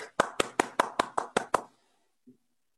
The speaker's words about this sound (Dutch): En u krijgt applaus.